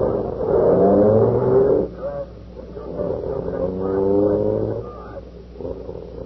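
A police car engine revs and pulls away, heading to the station house, its droning hum rising in pitch through two accelerating surges before settling into a steady rumble.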